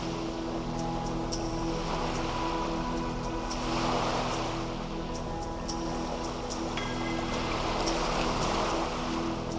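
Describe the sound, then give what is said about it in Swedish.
Ocean waves wash steadily onto a beach, a continuous rushing surf that swells gently every few seconds, with a soft sustained hum running underneath. “Hur känns det när du befinner dig på din strand och hör vågorna slå och upplever havet och naturen runt omkring?”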